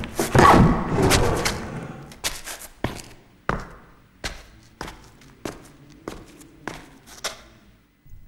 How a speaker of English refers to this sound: kicks, then opens a heavy door.